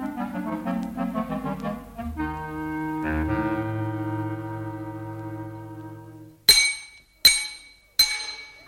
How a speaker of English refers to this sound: Just go easy with that banging, lads, will you please? I'm on the phone. Hello? Yeah, oh, yes, it's the workmen demolishing the old cellars for the rebuilding.